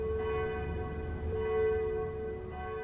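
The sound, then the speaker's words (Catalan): Many church bells ring together in a sustained, overlapping clang, their tones hanging in the air with fresh strikes now and then over a dense rumbling background. “L'artiller va pulsar altre cop el botó i un altre concert de campanes es va difondre de trinxera en trinxera.”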